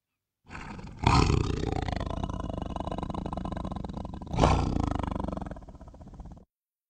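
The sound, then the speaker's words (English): A tiger's deep, rumbling roar sounds loud, sustained for several seconds with two sharp surges at the start and again near the end, no voices present. “Tiger.”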